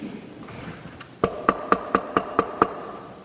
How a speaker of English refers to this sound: And he's knocking. He who has ears to hear. Do you hear him?